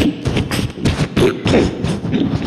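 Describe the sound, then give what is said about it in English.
A voice imitates crunching dried leaves fallen from trees: a steady run of about seven scratchy, noisy bursts, fairly loud and evenly paced, like a man marching and trampling through a thick layer of leaves. “It was really loud, crunching of leaves.”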